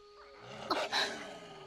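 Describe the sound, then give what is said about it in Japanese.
A wolf growls once in a short, harsh snarl that swells and fades within about half a second, fairly loud over a steady low background hum. “狼でも一匹だけなら”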